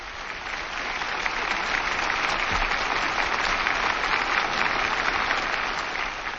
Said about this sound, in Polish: Bardzo dziękuję za te oklaski dla Norwida.